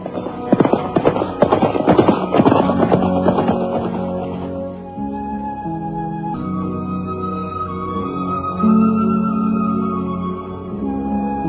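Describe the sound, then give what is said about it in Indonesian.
Horses' hooves clip-clop in a brisk, uneven patter for several seconds as horses loaded with kapok set off from the Candi Kidal temple, then give way to a sustained, steady tonal backdrop as the hoofbeats fade out. “Kemudian mereka memapah banyak kapuk naik ke atas punggung kuda. Dan sebentar kemudian, mereka pun sudah berangkat meninggalkan Candi Kidal.”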